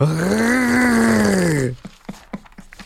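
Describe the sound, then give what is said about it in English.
A person imitates a dying cat with one long, strained, buzzing vocal whine that holds steady, rises slightly and then sags, followed by a few short, quieter scattered sounds. “You sound like a dying cat. Like that just purring.”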